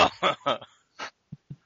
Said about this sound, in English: Whose asshole just coughed?